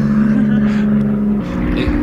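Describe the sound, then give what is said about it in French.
A loud, steady engine drone from an airplane flying over a farm of about 600 hectares with an aerodrome nearby, with a strong low humming tone that holds through the whole moment and shifts slightly in pitch toward the end. “Plein d'avions qui passent au-dessus.”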